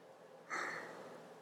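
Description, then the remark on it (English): A single slow, deep, airy breath, soft and quiet, with a brief sharper onset that trails off gently, part of slow breathing in and out. No one speaks. “Listen to mommy's breathing. In and out. In and out.”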